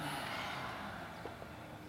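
A slow, deep exhale through the mouth: a steady, breathy rush of air lasting nearly two seconds, fading gently toward the end, fairly soft, with no talking.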